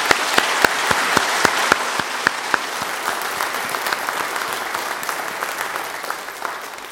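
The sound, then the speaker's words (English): A church audience applauds the children steadily for several seconds, thanking them for how well they have done: a dense wash of clapping with a few sharp, louder claps standing out early on, gradually easing off toward the end. “And we do want to thank the children, and I think at this time we should say thank you and give them a round of applause for how well they have done.”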